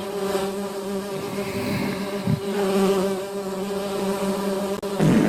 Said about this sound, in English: Oh, the bees. I don't like this.